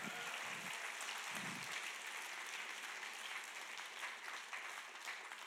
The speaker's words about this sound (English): How many of you believe he can do it in Lawrence, Kansas? Come on, let me ask that again. Can I just encourage you, we ought to clap better than that.